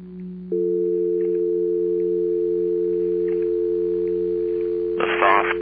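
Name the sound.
telephone dial tone hum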